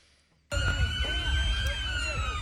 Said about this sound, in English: Sirens and response in Leicester, England.